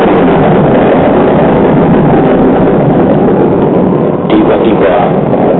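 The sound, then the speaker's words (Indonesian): A loud, steady roar of wind and rain fills the whole stretch without letup, dense, with a brief surge in intensity near the end. “Dan hujan angin mengganas lagi.”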